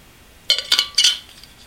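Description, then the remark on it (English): Three quick, bright clinks of glass knocking together while someone gets a drink of water, fairly loud, spaced about a quarter second apart, then quiet. No one speaks. “Well, anyway, I got to get a drink of water.”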